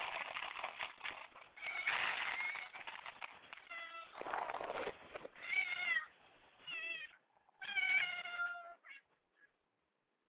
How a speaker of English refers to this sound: Yeah, yeah, y'all want to listen to my cats while I feed them? Yeah, hold on.